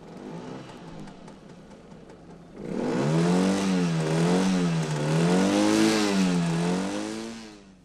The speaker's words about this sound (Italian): Ascolta i rumori dei mezzi che all'uomo facilitano gli spostamenti. Sono un po' come una carta d'identità. Difficile confonderli. Motocicletta.